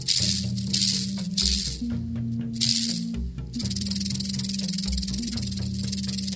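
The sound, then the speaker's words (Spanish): A snake's tail rattles steadily like a shaken maraca, a dry buzzing hiss pulsing in bursts for several seconds over a low humming drone, with no voices. “La serpiente parecía un arcoíris juguetón cuando sonaba su cola de maraca.”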